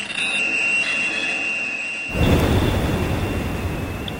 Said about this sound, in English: The industrial, intrusive noises of drilling rigs, boats, explosives. Humans are rude planet-scale hecklers, endangering marine life under the oceans.